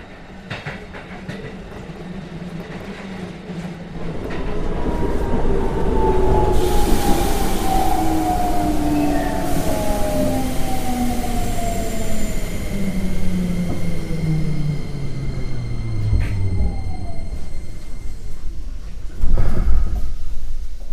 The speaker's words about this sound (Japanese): 電車が止まる。